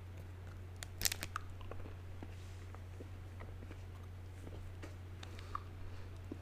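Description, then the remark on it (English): Chewing of a crunchy dark chocolate bar, with a sharp bite near the start followed by quiet, irregular mouth clicks and crunches over a steady low hum. “And I'm sorry if you can hear my chewing. It is chocolate, for one thing, so.”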